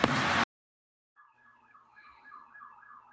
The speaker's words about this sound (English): Thank you for the sirens.